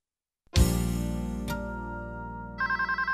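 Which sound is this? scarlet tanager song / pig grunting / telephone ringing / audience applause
telephone ringing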